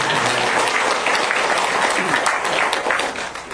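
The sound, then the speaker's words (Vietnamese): A crowd applauds a singer steadily, a dense wash of many hands clapping at full volume with a faint murmur of voices mixed in, tapering slightly at the end. “Cái câu mình không có quên được là người ta nói là lăng hay nhờ tiếng pháo mà ca sĩ hát hay nhờ tiếng vỗ tay, mà ca sĩ mà muốn ca sĩ mà hát hay thì phải vỗ tay thì ca sĩ mới hát hay được, cho nên phải cho đồng vỗ tay nữa.”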